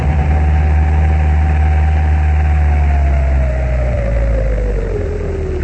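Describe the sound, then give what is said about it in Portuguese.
A car that has stopped outside idles with a steady low rumble and hum, a faint whine slowly sliding down in pitch as it settles, with no voices. “O carro parou lá fora.”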